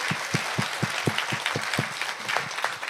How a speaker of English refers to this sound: Thank you, very nice. A big round of applause for everyone. А теперь аплодисменты всем вам.